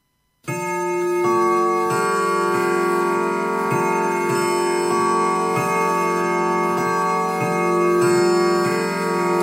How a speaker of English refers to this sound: The clock ticks on.